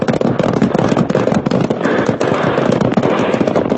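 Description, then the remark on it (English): Rapid, dense hoofbeats of several horses galloping hard as riders chase three mounted bandits fleeing along a town street toward the hills. A continuous loud drumming of percussive thuds with no pauses and no voices. “And in less time than it takes to tell, the Chamber of Commerce was on their own horses and streaking after the bandits wide open.”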